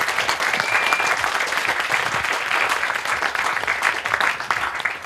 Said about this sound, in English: Final question? No? Can I have a final applause for